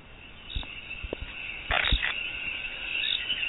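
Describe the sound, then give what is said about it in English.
A chorus of tiny coquí tree frogs, about 1 inch long, calling in the Yunque forest of Puerto Rico, with a steady high chirping backdrop and a few louder, sharp calls, no one speaking. “The Puerto Rico Yunque is very small, tiny tree frog about 1 inch long.”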